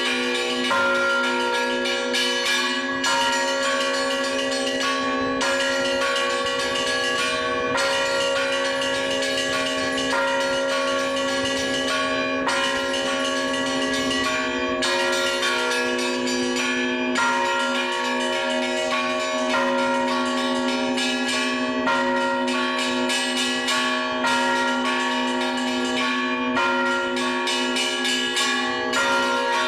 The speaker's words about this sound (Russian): Если в городе Шахты среди дел, забот и суеты вы услышали колокольный перезвон, знаете, где-то на звоннице сейчас дарит свое творчество Валерий Новицкий.